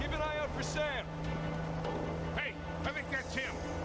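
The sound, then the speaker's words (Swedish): An off-road car's engine hums steadily as it drives fast through water, with a rushing, splashing wash underneath and people talking over it throughout. “Körde alldeles för snabbt genom vattnet.”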